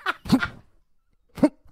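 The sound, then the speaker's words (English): An owl sneezes in short, squeaky bursts: a quick sputtering double sneeze, a second of silence, then one more sharp little sneeze, fairly loud, with no talking. “So there's going to be a little bit of background noise, and then you, my friend, are going to hear the majestic sound of an incredible owl sneezing.”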